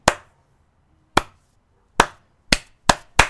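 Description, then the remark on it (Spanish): Six sharp, isolated claps, sparse at first with long pauses, then coming faster toward the end. This is clapping starting one person at a time, as people on a plane begin to applaud a man walking by, the way people clap in films. No talking. “Pero aplauden como aplauden en las películas, eso es lo que me gustó, que aplauden de a poquito, ¿viste? Aplaude uno, no es que largan todos juntos, sino que uno empieza así.”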